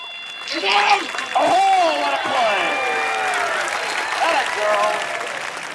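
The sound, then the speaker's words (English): A baseball crowd roars after a play is called, with a dense wash of cheering voices and clapping, loud and sustained for several seconds, with individual shouts rising above the din and a brief swell near the end. “Once the play is called, the noise comes back.”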